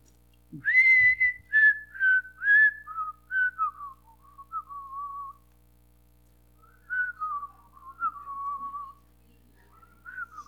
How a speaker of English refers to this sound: And, you know, there used to be a song that you heard all the time. And I'm going to whistle it for you. And if you know how to respond to this song, I want you to respond. If I can make myself whistle.